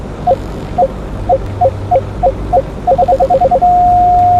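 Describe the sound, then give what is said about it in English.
In a video game, short paired electronic beeps repeat at a steady pace, speed up into a rapid run, then merge into one continuous high-pitched tone held to the end over a low hum, the continuous beep signalling the correct time to shoot. “The correct time to shoot is when the beep is continuous. This is the sound you will hear.”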